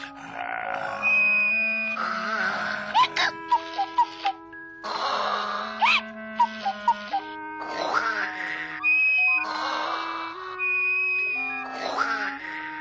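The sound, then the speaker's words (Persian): A wolf snores loudly and thunderously in a steady, repeating cycle of rough, grunting inhales and high, whistling exhales. The snoring is exaggerated, with no talking. “شکارچی که از اونجا رد میشد، وقتی صدای رعداسای خورناس گرگو شنید، خیال کرد که این صدا ممکنه صدای ناله و فریاد مادر بزرگ باشه.”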